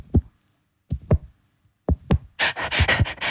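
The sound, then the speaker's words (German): Soft, low double thumps made with an ordinary kitchen dish towel mimic a heartbeat, three lub-dub pairs at a slow steady pace, followed by a burst of loud fabric rustling and flapping. “Dann habe ich hier noch ein normales Küchenhandtuch, so ein Geschirrhandtuch. Das macht den Herzschlag, den haben wir in der Szene vorhin auch schon gehört.”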